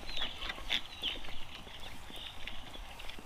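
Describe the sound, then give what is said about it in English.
Ducks on a farm, a few sharp, high calls bursting out near the start over a hissy, cluttered background with faint knocking. “I think it's ducks, but I think it's ducks on a farm.”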